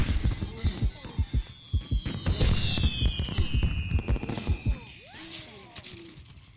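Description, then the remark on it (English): Rapid bursts of a fireworks power-up from a slot machine in a video game pop and crackle in a dense rhythmic barrage, with a long descending whistle sweeping across the middle before the explosions thin out and fade. “I think the fireworks are my favorite power-up, but I've got many more.”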